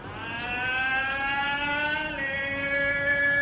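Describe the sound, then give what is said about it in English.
A street tamale vendor's long, drawn-out shouted morning call as he pushes a bright yellow metal cart through the streets, held steady and loud before dropping to a lower pitch partway through, ringing out over a constant background rumble. “The faithful old tamale vendor who opens his lungs every morning as he pushes his bright yellow metal cart through the streets.”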